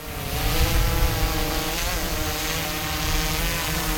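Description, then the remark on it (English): A police drone of the Noble County Sheriff's Department, not much larger than a backpack, whirs its propellers steadily and loudly, a constant buzzing drone with layered humming tones that holds unbroken for the whole few seconds, with no one talking. “That powerful whirring sound is coming from one of the Noble County Sheriff's Department's two drones.”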